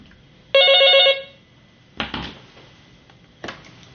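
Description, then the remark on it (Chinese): A telephone rings once, a bright, steady electronic tone lasting about half a second, followed by a couple of soft clunks like the handset being picked up. No one speaks. “你跟税务局联系一下，核实一下消息，我等你电话。”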